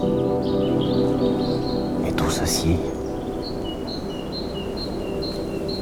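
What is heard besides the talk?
birds singing in woodland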